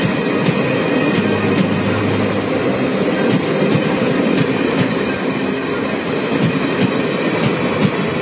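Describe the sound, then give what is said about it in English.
A departing train rumbles steadily along the tracks, loud, its wheels clattering over rail joints in a loose, repeating rhythm beneath a constant roar. No voices are heard. “Hey, wait, stop! Time, tide and train. Wait for none. But I'm on time.”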